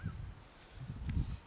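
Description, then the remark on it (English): A swan's trumpeting honk sounds faintly as the swan gets ready to take off, a couple of short, low, brassy calls over a quiet outdoor background with no one speaking. “Swan was getting ready, looked to, like to take off, but that maybe it was making some noise.”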